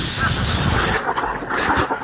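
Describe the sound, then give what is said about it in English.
The water in a car's radiator boils over after about 15 minutes of driving, a steady, broad rush of hissing steam, rough and sputtering through the first second, then thinning slightly while staying loud throughout. “every time the car drives for 15 minutes, the water in the radiator boils over, and then it takes...”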